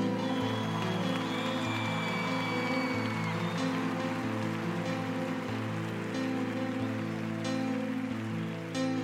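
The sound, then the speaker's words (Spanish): A crowd claps steadily throughout for the fellow musicians joining a singer in a song at a religious gathering, a dense, continuous patter of applause mixed with sustained instrumental tones that hold and shift underneath. “Un aplauso para ellos, ven.”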